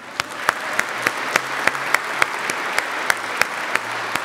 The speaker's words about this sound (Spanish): Gracias por estar aquí en la misa. Pero para que no se sienta nadie excluido, quiero que le demos un aplauso fuerte a los que llegaron tarde a la misa.